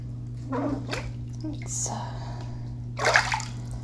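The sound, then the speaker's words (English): Bath water sloshes and splashes in a very deep bathtub in a few irregular bursts, mostly soft, with one louder splash near the end, over a steady low electrical hum. “And I'm in a very deep bathtub.”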